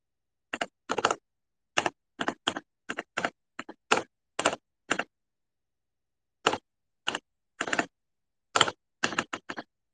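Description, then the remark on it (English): Typing on a computer keyboard: quick, irregular clusters of crisp key clicks, a longer pause in the middle, then another flurry of keystrokes. No voices. “I was typing on my keyboard the other day while I was calling with my parents, and Tokipapa was like, "What's that noise?"”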